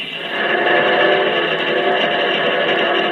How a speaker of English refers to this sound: He's screaming in terror as he tears down Main Street. But his scream has turned to the hoarse cry of a locomotive.